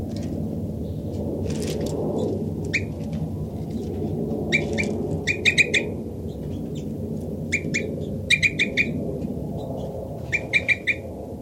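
Bird flight calls ring out as short, high, sharp chirps in quick clusters of two to four, repeating over a steady low rumble. No one speaks.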